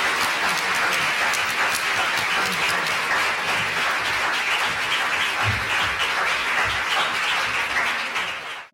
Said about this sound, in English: And then I think we should just give her a round of applause.